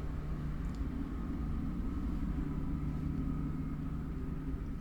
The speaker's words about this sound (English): And hang on, there's a bit of a truck, a forklift, would you believe, going past. And a tractor. We might just hold on for a second.